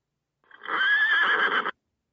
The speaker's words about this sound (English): Did you get that one? A horse, of course.